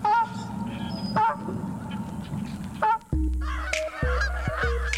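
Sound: canada goose honking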